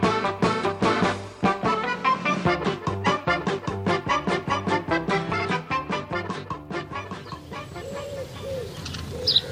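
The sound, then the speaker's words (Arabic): A busy chorus of birds calls continuously, full of rapid clucking and chirping notes, with a few softer coo-like calls near the end. “ما أجمل هذه الطيور.”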